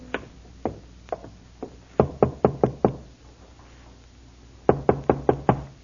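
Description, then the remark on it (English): Firm knocking on the wooden door of a lonely farmhouse, from its porch: a few slow, spaced raps followed by two quick bursts of about five knocks each, separated by a pause. Fairly loud, with no voices. “It took a few moments to rouse anyone, but finally the door opened, and there stood a woman.”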